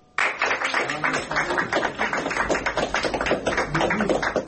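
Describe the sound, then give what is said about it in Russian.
A crowd applauds steadily as court bailiffs lead an 18-year-old street singer out of the Leninsky court in St. Petersburg after a hearing. It is a dense patter of many hands clapping that starts abruptly and holds at an even loudness throughout, with some voices mixed in underneath. “Под аплодисменты собравшиеся приставы Ленинского суда Санкт-Петербурга вывели после заседания 18-летнюю уличную певицу”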